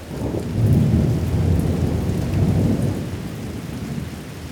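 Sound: rain falling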